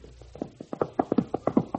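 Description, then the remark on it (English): Rapid hoofbeats of Satan, a galloping wild horse on the Wyoming prairie, a quick uneven drumming of hard thuds that grows louder as it approaches, with no voices. “That's Satan, a wild horse that is the terror of the Wyoming prairie.”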